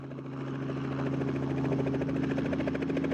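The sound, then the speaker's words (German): A helicopter in a rapid climbing flight over a South Sea island toward an inland mountain range, its steady engine drone and rapid rhythmic rotor chop filling the sound loudly, swelling slightly at first then holding constant. “Dann bringt uns der Helikopter in einem rasanten Steigflug zu einer Bergkette im Landesinneren.”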